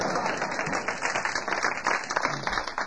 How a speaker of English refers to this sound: Kind of formal here with applause and everything, isn't it? It's kind of formal setup.